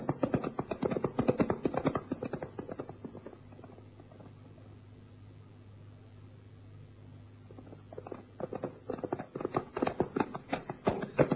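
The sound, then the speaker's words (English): Horse hooves trot in a quick, steady clip-clop rhythm as the rider spurs the horse on, drop away to a low steady hum for a few seconds, then return and grow louder toward the end. “Sefton spurred his horse on.”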